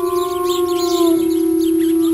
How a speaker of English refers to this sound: Those are wolves. I used to live near coyotes, and coyotes don't sound like that. I guess wolves are different.